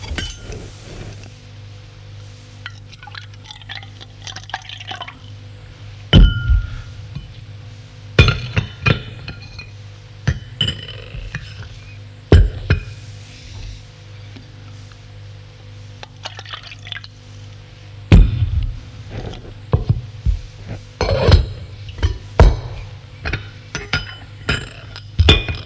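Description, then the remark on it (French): China cups and saucers clink sharply several times at irregular intervals, with trickling liquid sounds as tea is poured and served with a drop of milk, over a low steady background hum. No one speaks. “Elle lui demande : lait, sucre ? Une goutte de lait. Et elle le sert.”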